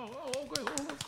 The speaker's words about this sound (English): Clap.